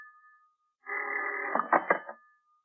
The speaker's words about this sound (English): It seems like hours later when the phone bell cut through the darkness like a knife.